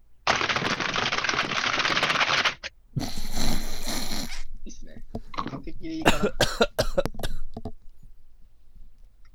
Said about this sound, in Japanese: キーボード叩く音。 はい。 キーボード叩く音もやっぱ需要あるはず。